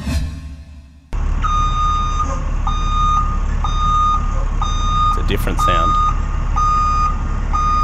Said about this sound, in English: That was a bus. That was a school bus.